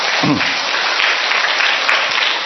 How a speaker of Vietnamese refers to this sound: Thôi cho một tràng pháo tay thật lớn lên.